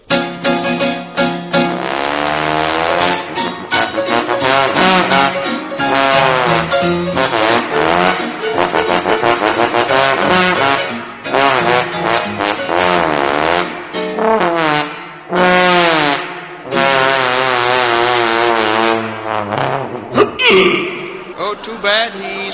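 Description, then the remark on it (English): A trombone plays a lively, jazzy run of brassy notes on a show stage, presented as played by the great Blubberlips, a trombone-playing whale, with bends and slides between pitches, loud and continuous for about twenty seconds with only brief pauses. “Now to conclude our show this evening, I know you've all seen and enjoyed our performing seals from time to time, but we have now being trotted out onto our stage one of the world's few trombone-playing whales, the great Blubberlips.”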